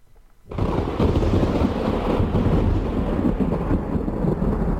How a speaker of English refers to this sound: By playing a big thunder clap.